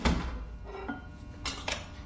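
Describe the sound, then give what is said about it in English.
A basement door swings shut with a heavy, low thud, followed by a few sharp metallic clicks as it locks. There is no talking. “The basement door closed, too. Locked, by the sound of it.”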